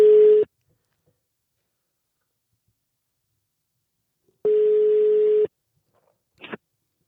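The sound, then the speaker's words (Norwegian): An outgoing call's ringback tone as a call is placed to an applicant: a steady electronic burr sounds once, then after a long silence a second one-second tone, followed by a brief click-like blip as the line connects. “Men vi ringer og hører litt om hvorfor de har søkt, og hva vi kan forvente oss.”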